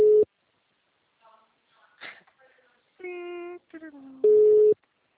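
A telephone ringback tune plays over the line: a steady electronic tone opens and closes it, with short tinny melodic notes and a sustained harmonic phrase sliding downward in between.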